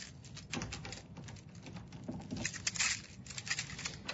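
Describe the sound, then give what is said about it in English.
Keys jingle and clink in a run of light, irregular metallic clicks, with a brighter rattling burst near the end as the lock of an office door at the end of a hallway is worked. No one speaks. “So here, let me grab my keys.”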